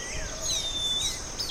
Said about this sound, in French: effectivement, on peut commencer à y trouver des oiseaux de savane. Là. Oui. Il y en a un qui siffle comme on siffle les filles dans la rue.